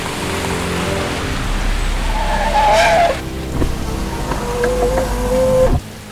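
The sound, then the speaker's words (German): A car engine rumbles on a road, then tires squeal in two sharp skids before the car comes to an abrupt stop. No one speaks. “Da, ein Auto. Hallo, halten Sie an.”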